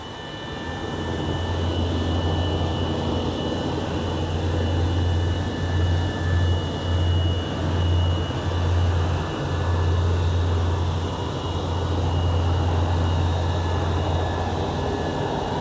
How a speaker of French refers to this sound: a prévenu pour qu'on envoie des hélicoptères pour le chercher.